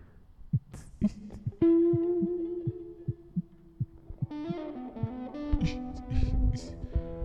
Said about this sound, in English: No, this microphone's not broken. The reverb is blasting.